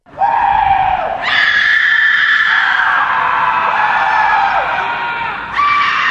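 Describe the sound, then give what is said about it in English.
Columbia University students in Morningside Heights, New York City, scream together in the Primal Scream at midnight on the Sunday night of finals week: one long, loud, sustained roar lasting several seconds, pitch rising after the first second and surging again near the end. “It's called Primal Scream, and like the return of the swallows to Capistrano each spring, it happens like clockwork.”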